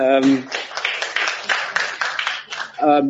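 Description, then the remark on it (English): Audience applause for a speaker after his talk: a steady, dense patter of many hands clapping for nearly three seconds, with a voice briefly heard just before it starts and again as it ends. “Another round of applause for him.”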